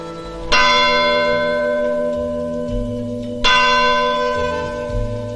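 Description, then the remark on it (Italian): The church bell of the Addolorata tolls twice, each strike ringing out loud with a long, shimmering decay that hums on between strokes. No voices are heard. “Campana dell'addolorata.”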